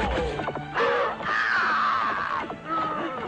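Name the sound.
parrot squawking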